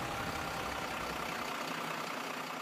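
A steady, low engine rumble of an idling city bus continues with a broad hiss on top. No voices are heard.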